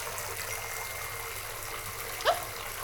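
A steady, continuous rush of water flooding in from under a door, with a brief sharp knock near the end and no one speaking.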